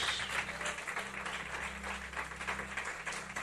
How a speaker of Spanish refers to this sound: Le damos un aplauso a ese Dios. We give him an applause.